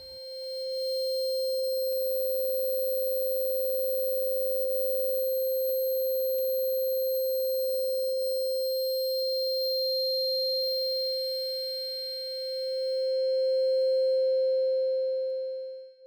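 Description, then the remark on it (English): A steady, pure high-pitched tone rings continuously for about sixteen seconds, like a simulated ear-ringing, swelling slightly louder near the end with faint hiss above it. “Tinnitus.wave.”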